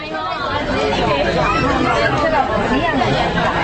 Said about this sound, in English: Customers crowd a long glass display counter at the Golden Palace jewelry store. Rangoon's Chinatown is in the heart of the city, where Chinese traders have long dominated the gold industry.